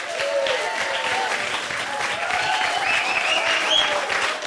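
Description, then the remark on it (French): An audience claps steadily and densely for several seconds to welcome the improvisers of the show Tac au Tac, a continuous wash of hands with faint whoops or cheers rising above it. “Je vous demande d'applaudir chaleureusement les improvisatrices et les improvisateurs ce soir.”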